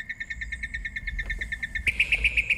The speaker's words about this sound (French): Les moqueurs sont connus pour leur capacité à imiter d'autres oiseaux et certains sons de leur environnement à condition que ces sons-là tombent dans leur gamme acoustique. Par exemple, ils peuvent imiter les geais bleus, mais pas les corbeaux,